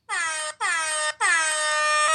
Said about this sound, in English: I'm going to give that 3 out of 3 air horn blasts.